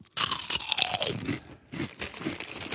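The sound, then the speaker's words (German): Loud, crisp crunching of 'Bratel' (Schweinsbraten, pork roast) chips being chewed, irregular bursts of crackly bites with a brief pause midway, then more crunching. No one speaks. “Probier mal, Schweinsbratenchips.”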